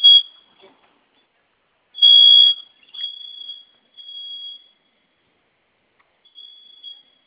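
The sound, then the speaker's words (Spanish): A home security alarm, set off by pressing its two flame buttons at the same time, blares a shrill, high-pitched electronic tone in bursts, two loud blasts followed by softer, intermittent beeping as it winds down. No one speaks. “Sonó su alarma y vamos a ingresar su clave, que la nueva, la que acabo de registrar.”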